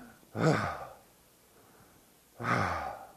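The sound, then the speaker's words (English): Two heavy, breathy exhalations about two seconds apart, fairly loud, a voice blowing air out forcefully to imitate the rushing wind of Pentecost during a sermon, with quiet pauses between them. “This rushing wind is like a heavy breathing.”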